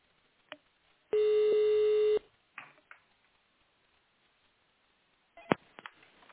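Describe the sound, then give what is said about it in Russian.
One steady electronic telephone tone, like a held touch-tone keypress, dialing an extension number in tone mode on a lubricants distributor's automated phone line, lasts about a second, followed by a few faint clicks and handling noises in an otherwise quiet line. “Если вы знаете внутренний номер абонента, пожалуйста, наберите его в тональном режиме или дождитесь ответа оператора.”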